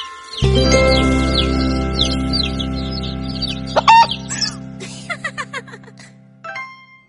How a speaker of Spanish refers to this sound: Allí nacen 5 pollitos y esos pollitos hacen.